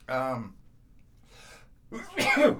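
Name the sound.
repeated sneezes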